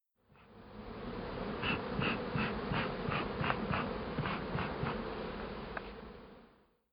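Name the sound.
bee buzzing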